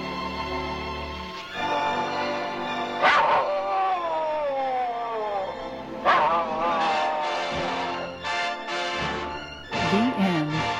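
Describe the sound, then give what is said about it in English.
A small dog, Skippy, who played Asta on screen, yips and barks in several high-pitched bursts, with whiny, sliding cries between them, fairly loud, no one talking. “Skippy, the dog who played Asta, was friendly on screen, but according to William Powell and Myrna Loy, he was usually rather aloof between scenes.”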